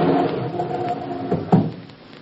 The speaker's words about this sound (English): Quiet now. I'm going to open the door.